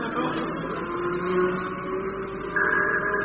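A steady, droning engine rumbles throughout with a layered tonal hum, swelling a little louder and higher toward the end as if drawing nearer. No one speaks.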